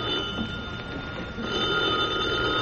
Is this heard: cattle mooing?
no